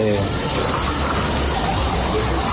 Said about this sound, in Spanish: Mira el agua, no, mi madre, la tubería. ¿Cómo es posible esto, Dios?